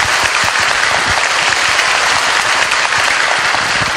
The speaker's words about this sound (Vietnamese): Các em và quý Phật tử cho một tràng pháo tay thật lớn.